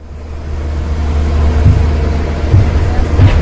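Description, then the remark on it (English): A crane's heavy diesel engine rumbles steadily, with a few dull knocks and clanks as it lifts concrete barriers onto a flatbed truck outside the former Radio Free Europe building in Prague, near Wenceslas Square, over a constant outdoor background hiss. “A crane lifts concrete barriers onto a flatbed truck outside what used to be Radio Free Europe, watched by a crowd of TV crews and politicians.”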